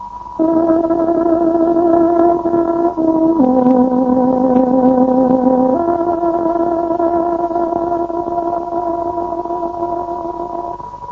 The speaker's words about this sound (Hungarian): Most pontos időjelzést adunk. Tárogatónk 17 órát jelez.